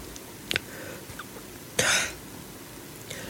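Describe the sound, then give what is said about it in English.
A loud cough bursts out once with a brief, sharper catch of breath just before it, then quiet with no talking. “Critics may cough. Excuse me.”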